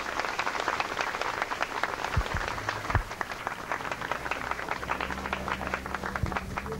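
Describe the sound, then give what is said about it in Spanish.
A crowd applauds warmly to welcome the Brazilian educator Paulo Freire and his wife and a representative of the Embassy of Brazil: a dense, steady wash of many hands clapping at an even level for about seven seconds, with no voices over it. “Recibámoslos a ellos con un fuerte y caluroso aplauso.”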